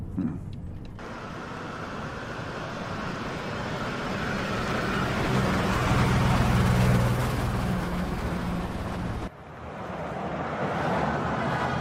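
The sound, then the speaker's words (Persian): A car's engine and tyre rumble fill the scene, swelling as it rolls along and then easing off as the vehicle slows and pulls over, with a steady low road noise continuing. “دارن نگه میدارن.”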